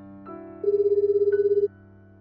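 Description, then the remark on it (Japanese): A single phone ringback tone, a steady warbling burst about one second long heard over a faint background hum, with no talking, as a man calls his wife, who is slow to answer. “妻に電話をかけてみたが、なかなか出ない。”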